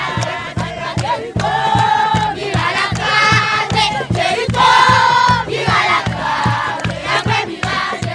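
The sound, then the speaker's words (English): In a dusty homeless encampment in the Haitian capital after the earthquake, women and children in a circle chant a song praising Joshua's victory in Jericho, calling for the walls to come down, their voices loud and steady with a rhythmic pulse and rising, repeated melodic phrases throughout. “Women and children form a circle chanting praise for Joshua's victory in Jericho.”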